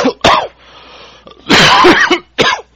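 coughing and throat clearing

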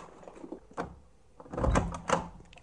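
door opening

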